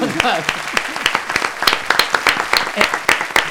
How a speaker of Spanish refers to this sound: Antes de su intervención, un aplauso, por favor.